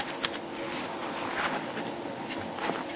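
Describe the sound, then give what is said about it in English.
Steady scratching of an Eason's pencil with poor-quality lead moving across paper, a dry rustling texture with a few sharper strokes, heard on its own without any talking. “And my pencil's not working right.”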